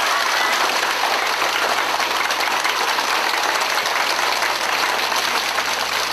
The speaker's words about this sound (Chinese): 现在让我们以热烈的掌声欢迎我们尊敬的李洪志老师。